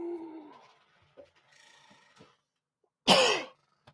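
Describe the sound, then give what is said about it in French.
A single short, sharp, fairly loud cough near the end, preceded by a brief hum of voice and faint rustling noises. “J'ai toussé de façon subtile.”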